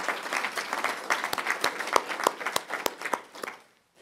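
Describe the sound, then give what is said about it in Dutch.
An audience at a municipal gathering applauds to thank a woman for her service to local democracy, with dense, crackling handclaps that build and hold steady, a few sharper individual claps standing out, then thin out and fade to silence near the end. “Applaus voor Arianna.”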